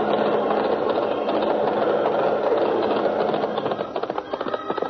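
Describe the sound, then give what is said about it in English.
The galloping hooves of Fury, a great golden Palomino horse ridden bareback, clatter out of a vast open cave in a fast, steady rhythm over a dense, continuous rumbling bed of noise. The beats grow sharper and more distinct toward the end, with no voices. “A clatter of hoofs in the vast open cave. Out into the open gallops the great golden Palomino Fury, and riding bareback, clad in Indian garb from head to toe, Great Arrow on the trail of justice.”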